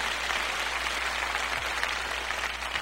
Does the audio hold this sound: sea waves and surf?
no